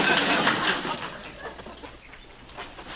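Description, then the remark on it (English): A busy flock of chickens in a chicken coop clucks and squawks together, a dense, continuous clamor of overlapping calls that starts loud and eases off slightly, with no one talking. “By making a raid in a chicken coop, excuse me.”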